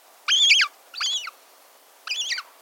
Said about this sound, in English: We're hearing the call of a hungry young gull, tagging along as its parent scavenges the beach for tidbits.